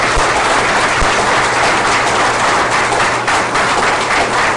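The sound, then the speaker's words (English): A sustained wash of applause from a sizable audience for the speaker Dr. Truth, dense and steady at a loud level throughout, with countless overlapping claps blending into a continuous roar and no talking. “And so let's give Dr. Truth one more round of applause.”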